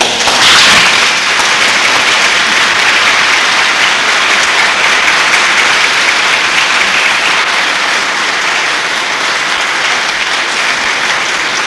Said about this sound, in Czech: v radosti a vděčnosti je potlesk.